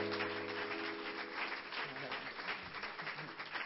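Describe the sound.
An audience claps for the Lord in a dense, steady wash of applause that holds for several seconds, with voices and a low sustained tone mixed in beneath it.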